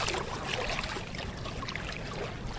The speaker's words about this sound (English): I'm standing at the banks of the Charles River. You can hear the water right by me if I just get the microphone down.